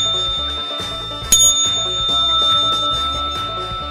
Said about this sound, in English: Monday morning, the … Almanac. How are you doing? Do a little of the bell ring here.